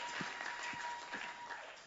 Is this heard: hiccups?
no